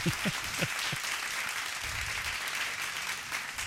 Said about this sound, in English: Damn, these are good. Dude, these are fucking good, man. Listen to us chew our pork rinds. For the next 10 minutes, we're just going to eat fucking pork rinds on the air.